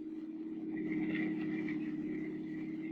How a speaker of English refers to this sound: The story itself begins as a car moves along a snow-covered street. There are three men in the car.